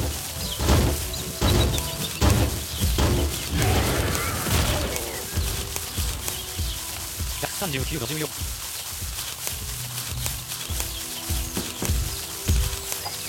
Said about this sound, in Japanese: 結構花火がね、派手に上がっております。